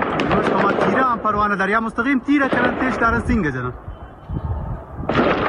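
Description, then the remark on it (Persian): Repeated sharp gunshots crack in the background during the Bloody Friday unrest in Zahedan, Iran, as people apparently throw stones from rooftops toward a police station, while a man speaks over them, followed by a louder burst of gunfire near the end. “مردمی که در میان صدای بیوقفه گلوله ظاهرا از بام خانه ها به سمت کلانتری سنگ می اندازند.”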